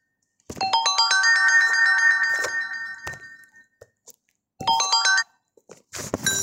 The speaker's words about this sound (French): Excusez-moi, il y a un téléphone qui a sonné. Enfin, c'est le mien.